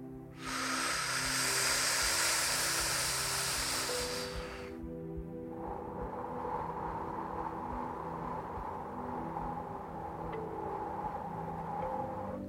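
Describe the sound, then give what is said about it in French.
A voice imitates the wind, breathing out as slowly and as long as possible as if fogging up a window pane: a long, loud, breathy whoosh lasting about four seconds, which then drops to a softer, steady airy hiss over a low hum. “Le plus longuement, le plus lentement possible, vous êtes en train d'imiter le son du vent.”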